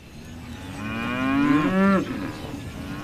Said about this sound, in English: It's late morning on a snow-covered farm in western Nevada, and Lucy Reckel has a spring in her step. She manages the cattle operation here at Snyder Livestock Company. She says the cows in the feedlot are feeling good too